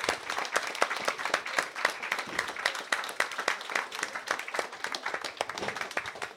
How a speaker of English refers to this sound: But right now, a round of applause, please,